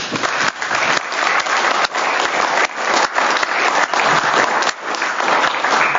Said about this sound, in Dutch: Wij zullen hem missen. Applaus voor deze man.